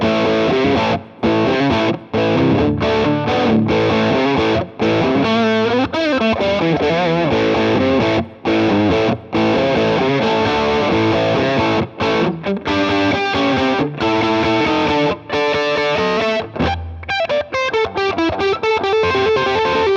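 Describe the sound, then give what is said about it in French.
An electric guitar through an overdrive pedal, with only the pedal's character knob adjusted, plays alone for a loud, gritty stretch of chords and melodic runs, with short breaks between phrases and a few bending, sliding notes. “tout simplement, c'est comme si je débranchais mon overdrive pour en mettre une autre.”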